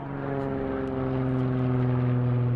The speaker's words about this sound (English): But Dad watched the skies. He knew every plane that flew over.